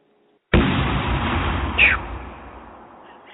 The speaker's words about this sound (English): Hold on. Here it comes again. All listeners, please prepare for a TNT explosion.